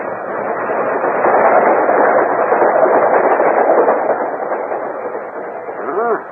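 An express train rushes past with a steady, loud rumbling roar that holds for several seconds, then eases slightly as it moves away; a voice briefly starts up at the very end.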